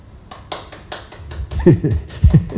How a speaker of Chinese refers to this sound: 各位你们说对不对啊？对的话拍手。